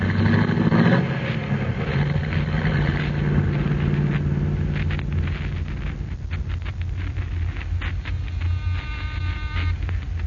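A car engine rumbles steadily with a low, continuous drone, a brief louder surge at the start settling into an even running hum, with no voices.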